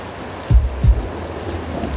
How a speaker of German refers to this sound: jetzt fängt ja noch an zu regnen.